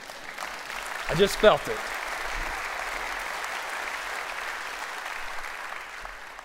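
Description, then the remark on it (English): Steady applause from an audience during a sermon about the hope of Christmas fills the whole clip, a broad even wash of clapping, with a brief spoken remark from a man rising above it near the start. “You can applaud that.”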